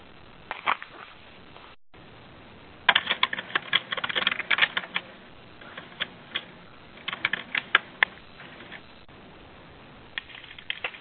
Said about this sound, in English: I hear more typing in the background, so I'll give it just a moment in case that is an incoming question.